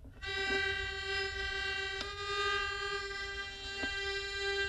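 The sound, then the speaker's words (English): A hurdy-gurdy sounds two melody strings together without drones, one slightly out of tune, producing a steady, bright, reedy tone with a few sharp clicks from the keys. “And two melodies. One is slightly out of tune.”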